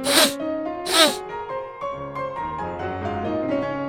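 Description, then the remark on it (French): Two loud, sharp sniffs about a second apart, each a quick airy rush, followed by a sustained tonal passage with shifting pitches. “Il se mit à renifler bruyamment.”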